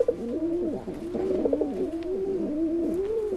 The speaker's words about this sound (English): That soft cooing sound comes from common pigeons called rock pigeons.